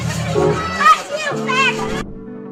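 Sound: children playing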